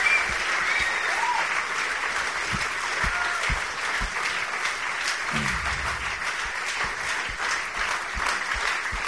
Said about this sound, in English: Let's give the Lord a round of applause in here. Szóval szeretnél kérni, hogy adjunk egy utolsó nagy tapsot az Úrnak. Woo! Yeah!